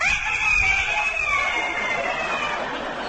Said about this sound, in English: You know, you're not a puppy dog, you're a proud rooster. And it's time for you to crow because the sun is just coming up.